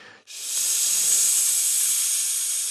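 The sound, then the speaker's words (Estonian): A steady, snake-like hiss starts after a brief quiet moment and holds loud and even for over two seconds, a bright airy rush with no pauses and no voices. “See keegi jõudis kööki ja ühe suuremat sisinat kuuldavale tuues viskus taburetile ja sealt köögilauale.”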